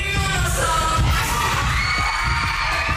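A loud, dense crowd roars and shouts continuously at a concert, with whoops and yells over heavy thumping low-end beats from the music underneath.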